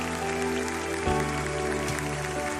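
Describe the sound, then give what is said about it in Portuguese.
A church audience applauds people who are accepting Jesus as Lord and Savior, in a steady, dense wash of clapping that lasts the whole moment, with sustained organ-like music tones running beneath it. “E o povo de Deus vai fazer uma salva de palmas agora aqui para essa galera que está convidando a Jesus para ser Senhor e Salvador em nome de Jesus.”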